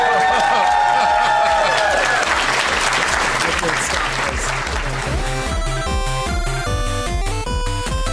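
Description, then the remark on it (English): A live audience at a convention bursts into loud applause and cheering, dense clapping and whoops filling the space, while upbeat music with a steady pulsing beat plays underneath and takes over toward the end. “So thank you guys for coming. You've been a great crowd, and we'll see you at the rest of the convention.”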